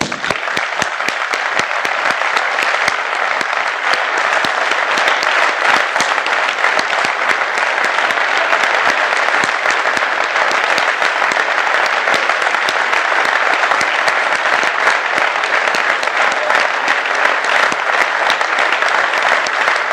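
Sustained applause from an audience, a long minute of clapping held as homage to the memory of a dead revolutionary militant, dense and steady at a constant loud level for the full stretch, with no talking over it.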